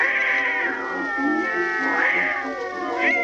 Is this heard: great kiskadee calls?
no